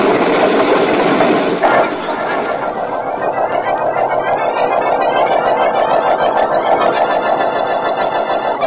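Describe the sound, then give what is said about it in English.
A car starter grinds, then the engine catches and revs, its whine climbing steadily in pitch over a loud, continuous mechanical rattle. No voices are heard. “Vance and Markham are getting into this car. On with the starter now.”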